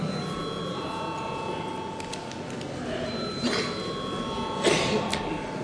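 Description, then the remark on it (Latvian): A parliamentary voting bell, rung to call a vote on a bill in its first reading, rings continuously with a steady, buzzing electric tone, fairly loud and unbroken for several seconds, with a few faint clicks and room noise underneath. “Lūdzu zvanu!”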